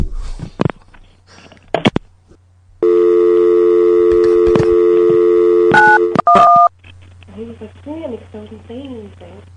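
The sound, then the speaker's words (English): Clicks of a telephone handset give way to a steady droning tone, then a quick run of three or four short two-pitch keypad beeps as someone dials the police, before a voice starts talking. “Okay, hanging up and calling the police.”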